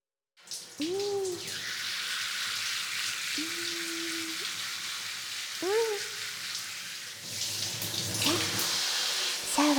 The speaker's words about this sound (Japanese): シャワー、シャンプー、洗い流さなきゃですね。